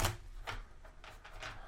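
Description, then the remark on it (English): A deck of tarot cards being shuffled for a reading: several soft, papery riffling bursts in quick, uneven succession, fairly quiet, with no one speaking. “And one more shuffle for Shell.”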